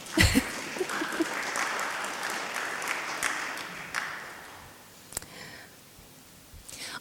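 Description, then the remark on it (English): A crowd at a Bible talk claps for the speaker's helper in a steady, dense patter of applause that holds for several seconds, then thins out and fades, with a few scattered claps and sharp knocks near the end. “Round of applause for my helper, please.”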